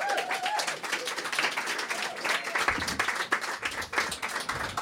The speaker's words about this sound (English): Please give her a big warm round of applause.